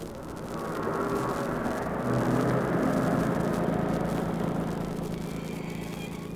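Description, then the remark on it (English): A car engine rumbles as the car comes up fast from behind, its deep roar swelling over the first couple of seconds and then holding steady and loud as it draws right alongside, with no voices. “Is that a car coming behind us? Yes, and it's rolling right along.”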